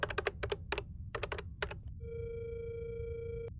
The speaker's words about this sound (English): I grabbed the phone and dialed. I was starving.